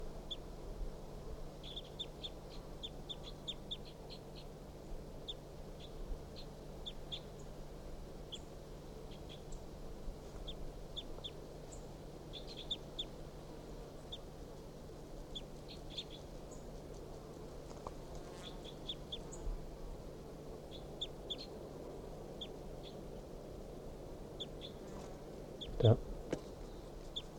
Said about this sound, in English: Start recording the wild bird.